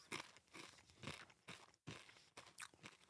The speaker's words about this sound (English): Give me a little bit of crunch.